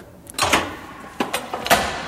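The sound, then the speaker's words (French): A door being opened and held open for others, marked by several sharp clicks and clunks of latch and handle spread over a couple of seconds, with no voices. “J'ai pas pris mon badge. Je vous tiens la porte.”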